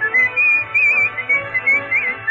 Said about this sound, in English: Hear him swinging out tonight, so join the fun when he whistles lightly.